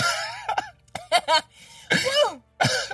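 Several harsh, close coughs come in uneven bursts, some strained and voiced with a throaty rasp, separated by brief pauses and no talking.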